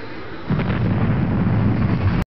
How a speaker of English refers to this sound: Suddenly, the helicopter was spinning in midair. They hit the ground and were thrown back against their seats as an explosion filled the air.